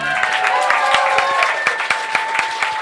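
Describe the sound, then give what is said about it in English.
A dense burst of audience applause at the end of the performance The Fall of the House of Wunderbread, many hands clapping at once in a steady, loud wash, with sharp individual claps and a few whoops or cheers rising above it. “Please continue your applause”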